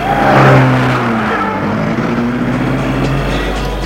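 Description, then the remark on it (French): A car engine is started and revs up loudly, its steady hum rising in pitch as the vehicle pulls away and keeps driving, with no voices present. “Dans la voiture et la met en route.”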